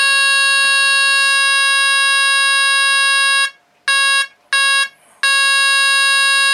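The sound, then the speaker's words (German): A loud electric horn, demonstrated on a device that sounds while its power-supply button is held, blares a steady, harsh buzzing tone for about three seconds, then cuts out when the button is released and sounds again in two short blasts before a final sustained blast. “Als nächstes eine Hupe.”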